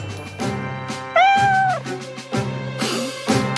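A kitten stuck up a tall tree gives one clear, drawn-out meow that rises and falls in pitch, over a busy background of tonal, music-like sounds. No one speaks.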